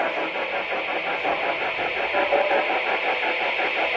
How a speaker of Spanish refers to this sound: Eso que se escucha de fondo es la alarma. Vale. Y ahora es cuando se apaga la alarma.